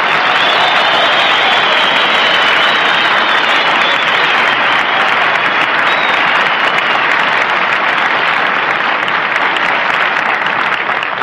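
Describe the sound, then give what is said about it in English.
A steady, unbroken roar of airplane engine noise from a plane in flight en route to March Field drones on for the whole stretch, dense and hissy with little change in pitch or loudness and no voices. “I tried to sleep, Bob, but I was worried about this plane.”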